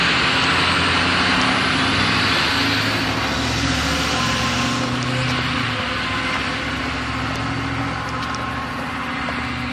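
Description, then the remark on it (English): A diesel car engine idles steadily at an intersection, its low rumbling drone continuous and loud for the whole stretch, with faint traffic hiss around it and no voices. “Ah, the dulcet tones of a diesel engine.”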